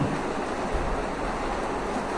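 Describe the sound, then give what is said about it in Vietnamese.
Heavy rain pours down in a steady, dense hiss that covers the whole range from low rumble to bright highs, holding an even loudness throughout with no voices. “Không giờ nói tôi nói không lại nước mưa nữa.”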